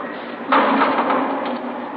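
A door is locked: a sudden loud, harsh scraping clatter breaks in and carries on as a steady, gritty grinding for over a second before easing slightly. No one speaks.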